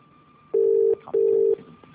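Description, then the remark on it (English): A telephone ringing tone on an outgoing call to Planet Poppadom on King's Road: one loud double burst of a steady mid-pitched buzzing tone, two short pulses with a brief gap, over a faint background hiss. “I'll ring up.”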